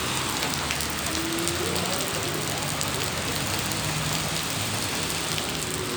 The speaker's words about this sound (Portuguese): agora vocês vão ouvir o som da paisagem do CAPS. Aí pessoal, chovendo, o barulho da chuva caindo, os carros passando, escuta só.